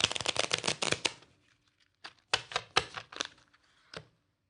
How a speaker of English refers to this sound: Suppose I had done this instead. Suppose I had taken a brand new deck, opened it up, and shuffled it.